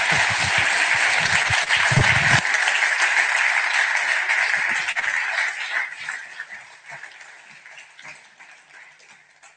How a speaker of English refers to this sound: Can we just give them all a round of applause? Thank you.